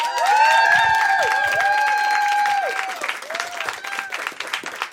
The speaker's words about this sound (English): More clapping. It's my wife. More clapping for my...